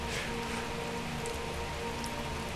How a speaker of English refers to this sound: And now I'm talking over the sound of rain. Familiar sound.